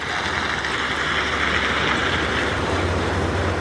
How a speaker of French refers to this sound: je sais que c'est un propulseur, que c'est son hélice qui provoque tout ça